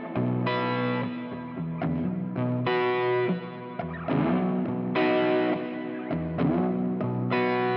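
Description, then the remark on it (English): Distorted electric guitar chords played through the overdrive on the dirty side, with reverb dialed in, thick harmonic-rich strums ringing and sustaining in loud, steady bursts with a few choppy changes between them. “And then there's an overdrive on the dirty side.”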